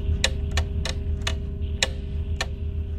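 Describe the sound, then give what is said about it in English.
An alarm clock ticks with about six sharp, crisp clicks, the gaps between them stretching so the ticking gradually slows, over a steady low hum and rumble. “The ticking gets slower and slower and slower.”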